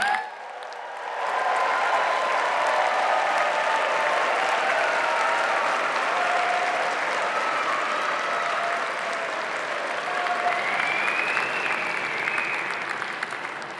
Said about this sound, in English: Okay, now you can applaud them.